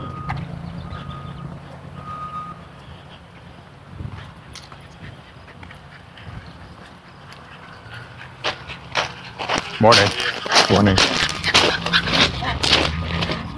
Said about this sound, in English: Big excitement. A little fluffy dog who really wanted to come over and sniff me.